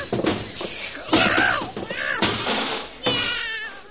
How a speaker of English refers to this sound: I'll handle this cat, all right. Come here. We'll put you inside this bag. Get in there.